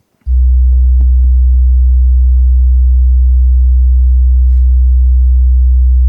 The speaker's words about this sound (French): Et puis, c'est donc Laurent qui nous assiste au son, qui va pouvoir envoyer une fréquence très grave.